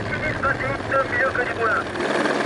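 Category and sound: vehicle, helicopter rotor flying overhead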